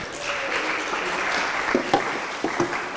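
A crowd claps steadily in a sustained, dense wash of applause, with a few sharper individual claps and faint voices near the end.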